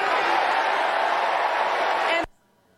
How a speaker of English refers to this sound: Yeah, do something. The crowd then erupting into chants of do something, do something.